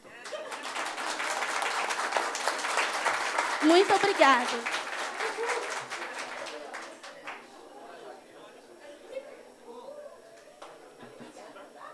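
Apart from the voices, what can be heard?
audience applause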